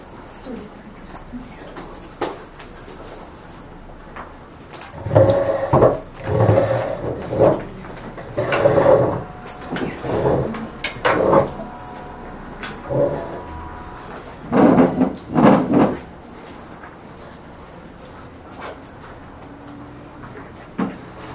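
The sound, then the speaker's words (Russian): Chairs scrape and thud as they are moved around and set down, a cluster of uneven knocks and drags in the middle, with faint voices murmuring. “Стулья нормально, да, что так ставят у вас? Стулья.”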